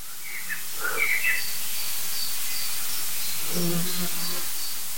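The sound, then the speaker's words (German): Agitated blackbird calls ring out in short bursts, joined by scattered chirps from other birds, all set against a steady background hiss with no one speaking. “Die Amsel war aber super nervös. Es kamen noch andere Vögel hinzu.”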